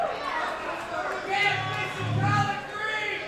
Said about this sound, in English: listen to this Georgia crowd. What do you think? I can tell by some of the stuff you're yelling out, folks, that you've heard some of my records, and I appreciate that a lot.